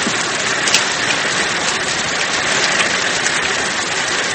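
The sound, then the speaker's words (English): Steady rain falls continuously from an overcast sky, a dense hiss of drops pattering on a surface, fairly loud, with no voices and a faint low rumble underneath. “Don Haynes, … executive officer and close friend, adjusted his trench coat to prevent the rain from going down the back of his neck.”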